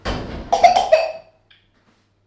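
A boy lets out a couple of harsh coughs in quick succession over about a second, then they fade into near silence with only a faint click afterward.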